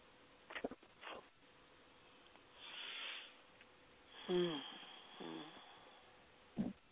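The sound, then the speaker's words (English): Fairly quiet body sounds: a few short throaty burps and a long breathy yawn with a low voiced groan, separated by brief pauses and soft breathing, with no talking. “Excuse me, I'm burping and yawning.”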